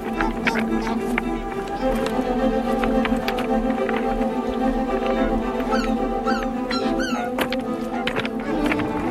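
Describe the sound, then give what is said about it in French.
Footsteps crunch unevenly over pebbles on a wetland, a steady low rumble of wind running underneath, along with a constant busy murmur of other sounds. “Encore un petit passage de galets, toujours un peu de vent”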